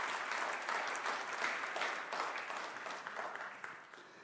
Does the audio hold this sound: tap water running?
no